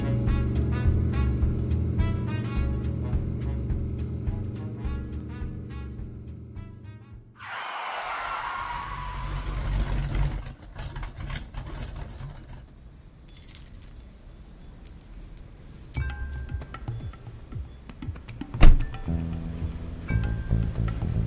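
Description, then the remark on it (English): A big Mopar car's engine rumbles low and steady, then a rushing burst of noise as it drives on toward the Lafayette Public Library, with keys or loose metal jangling and clinking throughout. “So I pointed my big Bach Mopar towards the library and did my best to obey all the traffic laws.”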